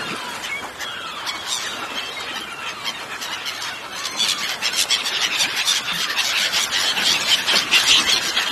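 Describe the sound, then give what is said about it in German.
A flock of seagulls, going after a fresh catch of shrimp, squawks and screeches continuously, many shrill overlapping calls, growing louder and denser in the second half. “Ein ganzer Schwarm Möwen hat das auf unseren Fang abgesehen.”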